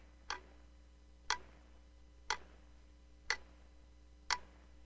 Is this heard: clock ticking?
yes